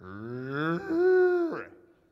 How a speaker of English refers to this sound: I thought, what in the world is that? I look outside, and there's about 20 or 30 cows right out in the parking lot, which was not paved. It was grass and gravel, and they were hanging out in the front.